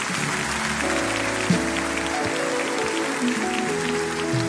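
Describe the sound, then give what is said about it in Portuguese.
A church audience applauds steadily for several seconds after a sermon, a dense wash of clapping with sustained low organ-like tones underneath, fairly loud throughout. “Pode aplaudir de novo.”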